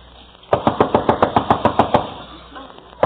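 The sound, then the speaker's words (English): A rapid, steady burst of about eleven loud thuds, someone pounding hard on a shut door and threatening to break it down, then a quieter pause with faint shuffling and one more thump at the end. “Open that door. Eddie, don't give up. All right, Herman, and I'll break it down.”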